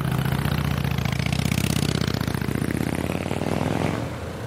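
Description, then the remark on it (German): A motorcycle engine rumbles loudly and steadily in Paris with a throaty, revving drone, then fades slightly toward the end as it moves away. No one speaks. “Und die schlimmste Hölle, das sind die Motorradfahrer.”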